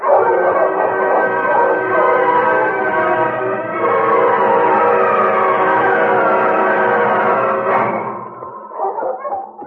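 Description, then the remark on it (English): A pack of husky dogs barks and yips loudly and nearly without pause, their overlapping howling cries forming a continuous chorus that breaks into scattered short yips at the end. “On King! On your husky!”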